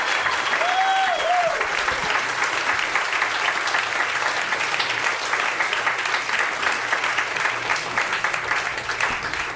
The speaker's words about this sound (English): So give him a round of applause, everybody.